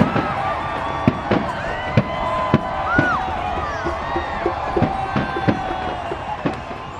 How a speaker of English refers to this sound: and fireworks then go off, flamethrowers go off, enormous amount of fireworks, 2 tons or more of it. And suddenly the base is engulfed in flames, this enormous 4-story ziggurat, and it will just start going, and it's a ferocious, ferocious fire.